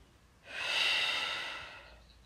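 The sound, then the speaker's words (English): A single long, deep breath, in through the nose and out through the mouth, a soft airy hiss that swells and slowly fades over about a second and a half, with no talking. “Breathe in through your nose. And out through your mouth.”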